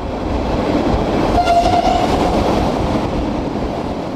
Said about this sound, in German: Es ist keine Grubenbahn, die jetzt in den Gotthard-Basistunnel rollt, sondern ein richtiger Eisenbahnzug und das auf jenen Schienen, auf denen in wenigen Jahren Züge unter dem Gotthard hindurchrasen werden.